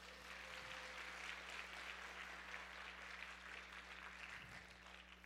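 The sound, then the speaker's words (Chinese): A large audience applauds steadily for several seconds for their small group leaders, a dense, even patter of many hands clapping, with a faint low electrical hum beneath it. “所以再一次给你的小组长一个掌声，好不好？”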